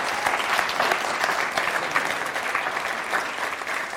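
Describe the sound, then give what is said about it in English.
A crowd claps in steady, dense applause in praise of God that holds at an even, fairly loud level for about four seconds, with no talking over it. “Yeah, give God a shout of praise.”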